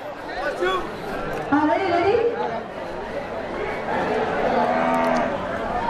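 A cow covered in purple colour moos a few times on a film set in a large open square by a river with about 300-400 extras, its low drawn-out calls rising and falling over steady crowd chatter and outdoor bustle.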